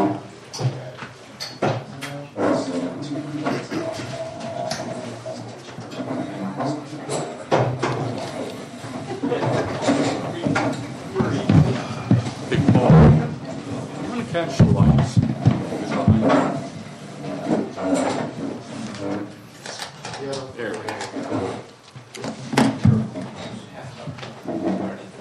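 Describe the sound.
Chairs scrape and bump across a floor as they are shifted and repositioned at a committee meeting, with irregular knocks and shuffles over a low murmur of voices.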